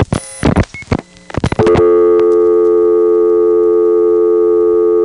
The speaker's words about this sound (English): The trick about depositing a dime while she was still on the line was to get the beep-beep sound out of the way so that when the actual dial tone came on, we'd actually get to hear it as it is, which is this.